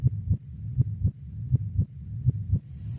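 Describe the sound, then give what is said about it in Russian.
A steady heartbeat pulse, low and thudding, with paired beats repeating about every three-quarters of a second over a faint continuous hum. No voices. “пульс хранителя дверей лабиринта.”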